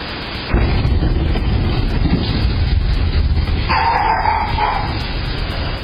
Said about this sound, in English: Turns out it was a meteor. There it is. NASA says the sonic boom happened after the out-of-the-world object broke up 40 miles above Earth. And its energy, the energy that it released, was equal to about 300 tons of TNT.